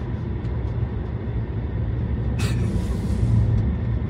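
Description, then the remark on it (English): A heavy truck engine rumbles steadily, a deep continuous drone with a brief sharp hiss of released air partway through. No one speaks. “I guess the presence of the truck threw her off.”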